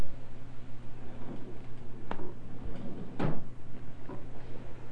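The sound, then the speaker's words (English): A high chair is pushed back across a floor toward the corner, giving a couple of short scraping clunks with quieter shuffling between them, over a steady low hum and no talking. “Push your high chair back, okay?”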